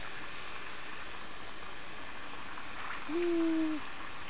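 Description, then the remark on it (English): Warm water runs steadily into a bathtub, a continuous soft rushing hiss throughout, with a short high-pitched voice calling out briefly near the end. “Putting water in the tub.”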